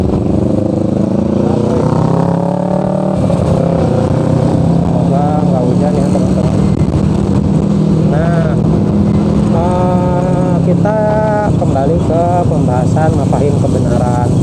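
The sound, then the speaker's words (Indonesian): Loud, steady engine drone and wind rumble from a moving motorcycle fill the whole stretch, with a man's voice talking over the noise. “Ya itu mungkin terlalu jauh sebetulnya pembahasannya, karena saya lagi naik motor jadi kurang fokus, dan nggak ada PPT di depan saya, yang ada cuma mobil, cuma dashboard.”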